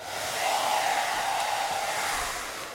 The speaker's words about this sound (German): Föhn an und Papierflieger ab in den Sturm.